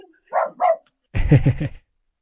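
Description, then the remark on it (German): Two quick, higher-pitched dog barks, then a deeper, louder burst of several rapid barks as dogs bark at someone at the door, with no one talking. “Entschuldigung, das waren gerade meine Hunde. Hier steht jemand an der Tür.”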